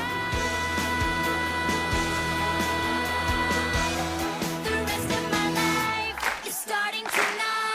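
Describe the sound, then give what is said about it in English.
Steady rhythmic clapping from Sharpay and the stage cast keeps time with loud, full music; the conductor claps too and rouses the audience to join in, and a burst of broader crowd applause swells near the end. No one speaks. “As Sharpay and the cast clap, the conductor does the same and rouses the audience to join in.”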